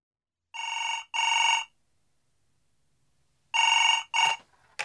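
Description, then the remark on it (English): A telephone rings in two double bursts, each pair of trills separated by a long silent pause, clear, with a faint rustle at the end as the call about a newspaper advertisement for bookcases is picked up. “I'm ringing about the advertisement in yesterday's newspaper, the one for the bookcases.”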